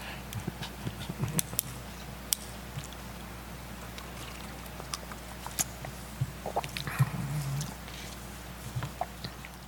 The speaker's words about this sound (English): Excuse me while I get some water here.